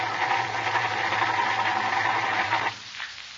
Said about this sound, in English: She won't start, Jack. The battery's running down. We'd better not use a self-starter until we dry the engine.